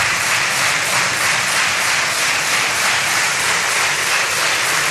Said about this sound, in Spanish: Familiares de algunas de ellas han asistido a la sesión. Desde la tribuna han recibido un prolongado aplauso de la bancada socialista y de Más Madrid, puestos en pie todos los diputados de ambos grupos.